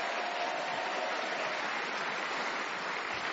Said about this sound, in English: A round of applause for Julian.